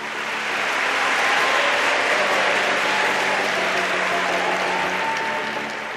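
A large audience of students breaks into loud, sustained applause at the end of a lecture in a university concert hall at Yale, a dense wash of many hands clapping at once that swells quickly and holds steady for several seconds with no voices.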